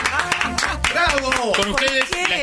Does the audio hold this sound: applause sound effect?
yes